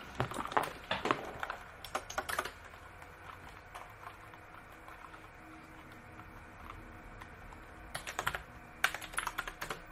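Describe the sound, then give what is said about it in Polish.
Keyboard keys clicking in quick bursts of typing, pausing in the middle and resuming near the end, moderately quiet with no talking. “Jeszcze się nawet klikają troszeczkę ciszej niż moja niebieska, no?”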